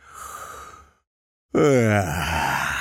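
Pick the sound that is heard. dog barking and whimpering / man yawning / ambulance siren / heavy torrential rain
man yawning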